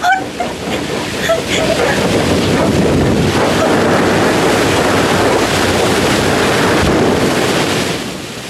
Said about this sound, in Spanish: ¡Oh, no! ¡Viene una enorme ola!